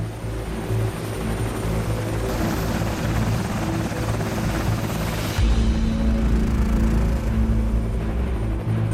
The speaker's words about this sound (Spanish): Una vez dentro de la unidad, el día a día es frenético, destacando especialmente el trabajo con los helicópteros Seahawk de la Armada.